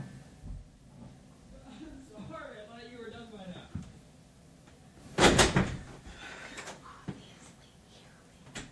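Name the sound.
door being opened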